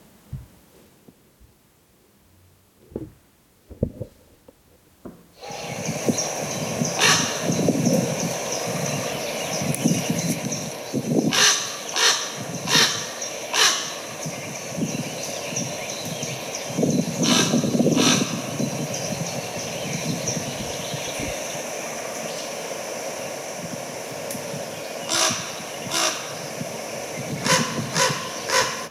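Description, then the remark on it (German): A large bird, not a crow, gives deep, resonant calls in flight, repeated at irregular intervals over a steady, rushing background noise, with a few soft thumps before the sound begins. “Jetzt mache ich mal den Ruf, ja? Es ist kein Krähe, sondern es ist so sonor.”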